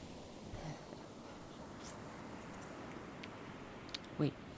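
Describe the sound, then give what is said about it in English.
A single short, muffled thump like a car door shutting, heard near the end over a steady wash of wind and surf-like background noise. “It sounded like a car door.”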